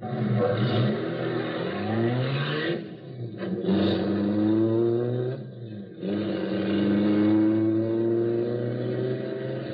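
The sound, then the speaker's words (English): A getaway car engine revs hard and accelerates, heading for a vault, rising in pitch through gear shifts with a brief lull in the middle, loud, then pulls away with a sustained roar. “Now, here comes the car. All right, get him in the car, quick. Okay, step on it.”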